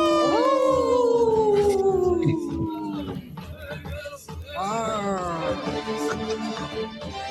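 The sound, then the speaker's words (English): Wolves howl in long, wavering tones that slide downward, then a second chorus of overlapping howls rises and fades, loud with a faint rumble underneath. “In this portion of the show, we'd like to bring awareness to our wolf and bear populations throughout Turtle Island.”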